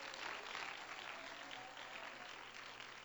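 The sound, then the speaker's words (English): A crowd claps their hands in praise, steady in a dense, continuous wash of applause, loud and even throughout with no pauses, and no distinct voices rise above it. “Oh, clap your hands to him and let's give him praise right now.”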